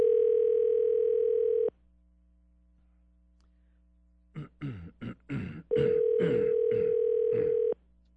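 On the News Talk 1620 WTAW radio show, a steady telephone dial tone hums for a couple of seconds while a phone call is placed. It cuts off, and after a pause a quick run of keypad beeps plays before a steady tone returns for two more seconds.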